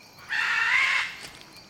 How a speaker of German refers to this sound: Inzwischen ist es schon dunkel. Nur wenige Minuten entfernt von der Stadt mit ihren Mototaxis bin ich für einen Moment mit dem Fluss und den Waldvögeln allein.